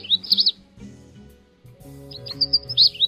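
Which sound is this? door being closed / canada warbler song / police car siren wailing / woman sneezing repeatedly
canada warbler song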